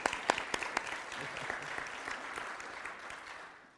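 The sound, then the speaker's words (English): Educators in an audience clap together in a burst of applause, dense overlapping hand claps with a few sharp ones standing out early, tapering off toward the end. “Yes, give us a line of applause.”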